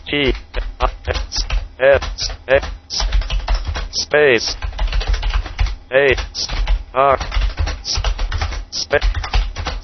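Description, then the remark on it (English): Rapid, irregular clicks of a computer keyboard as a paragraph of text is typed at the end of a file in a Notepad-like text editor, running steadily under a speech synthesizer voice that speaks almost continuously throughout. “So, for example, I'm going to press Control End, and we'll go to the end of the file, and I'll type an additional paragraph of text.”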